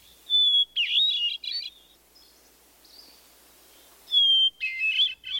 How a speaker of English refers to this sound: Some believe the song of the wood thrush to be the most beautiful bird song in North America. Others select the song of the hermit thrush.